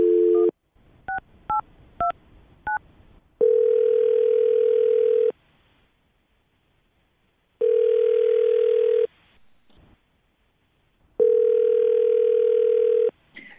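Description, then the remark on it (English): A phone line hums with a dial tone, then a quick run of touch-tone keypad beeps as someone dials a woman's phone number, followed by three long, steady ringing tones separated by pauses of silence, clear with no voices. “Well, I will dial her phone number right now.”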